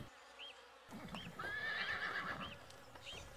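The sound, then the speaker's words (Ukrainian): A horse whinnies loudly in a long, wavering neigh, with hooves clip-clopping and shuffling; no one speaks. “Пасется конь тыдень, пасется другий. Поправился, навод подбрыквать почал.”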